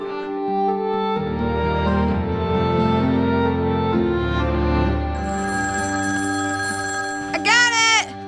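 A sustained musical drone plays, then a brief, loud warbling telephone ring cuts in near the end, one short trilling burst.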